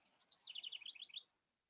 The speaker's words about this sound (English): It's funny, the birds started really chirping right when I asked that.